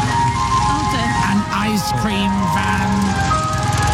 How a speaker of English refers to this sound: Ice cream van.